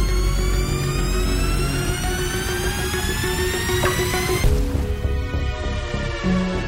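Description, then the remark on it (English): A loud, steady airplane engine roar with rising whining tones as the jet gathers speed, then the pitch shifts abruptly near the end as the engine sound changes. “The plane is moving!”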